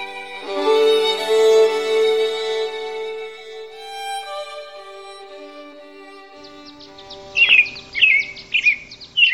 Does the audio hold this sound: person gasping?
no